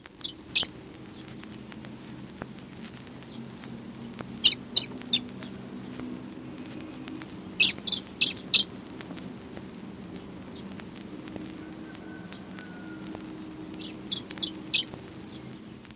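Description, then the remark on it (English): Young blackbirds give thin, high-pitched calls from the nest in short clustered bursts, fairly faint, over a steady low background hum with scattered soft clicks and rustles. “Young blackbird in nest.”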